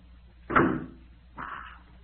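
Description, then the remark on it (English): A door swings shut with a solid thud, followed about a second later by a softer rasping latch sound. No one speaks. “Oh, so that's how it is. Wait till I close this door.”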